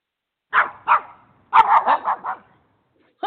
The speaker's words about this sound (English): Where's that dog come from? I don't own a dog. It must be the crazy live studio audience must be the ones who brought it into the studio today.